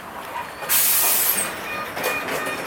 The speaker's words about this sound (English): A bus pulls up to the curb, also BYD, also electric, with hordes of passengers hopping out and heading into a mall